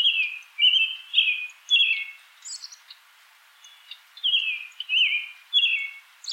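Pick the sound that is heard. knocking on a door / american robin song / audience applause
american robin song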